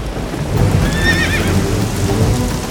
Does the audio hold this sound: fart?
no